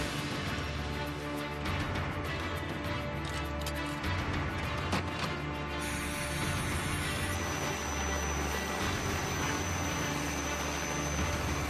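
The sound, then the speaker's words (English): A helicopter lifting off en route to a point called Lockheed River: a loud, continuous engine roar with a deep, rhythmic rotor throb underneath and a high turbine whine that steps up in pitch partway through. No voices. “The helicopter lifting off.”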